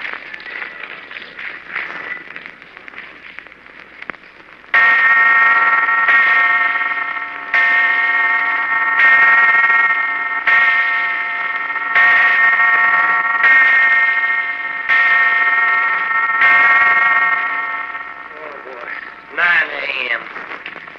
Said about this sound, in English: Hey, hold it. Bells. Well, I'm doing if that don't sound like it was a church somewhere down below. Does it then?